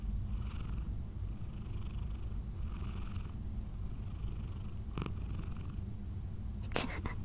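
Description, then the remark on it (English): A cat purrs steadily, a continuous low rumbling drone throughout, with a couple of brief sharper sounds near the end. “No, I hear you purring.”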